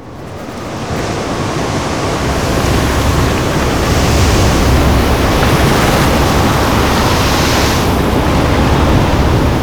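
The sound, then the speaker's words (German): Loud, continuous roar of a stormy sea on the ocean at night, heavy waves surging and crashing with rushing wind, building over the first seconds then staying dense throughout, with no voices. “Plötzlich zieht ein Sturm auf. Wir hatten stark unter hohem Seegang zu leiden.”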